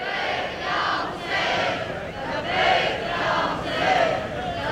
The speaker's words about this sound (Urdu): جو جو لوگ مولا علی کی آواز پر لبیک کہنا چاہتے ہیں, میں 2 نعرے لگواؤں گا بلکہ 3 نعرے لگواؤں گا, سب نے مل کر نعرہ لگانا ہے, لبیک یا حسین.